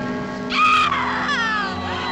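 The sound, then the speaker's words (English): As a clock strikes, a woman lets out a loud, high, joyful scream that bursts in suddenly, then trails off into a wavering, falling cry, with a steady ringing tone humming underneath throughout. “As the clock strikes, Tula gives an ecstatic scream.”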